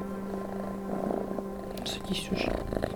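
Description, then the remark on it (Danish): A cat, one of a pair named Alison and Simon living in a small seventh-floor room in Krakow, purrs steadily for a few seconds, a low continuous rumble, with some soft breathy noises and faint voice-like sounds drifting in toward the end. “Og hun bor på 7. etage i et lille værelse sammen med sin katte Alison og Simon.”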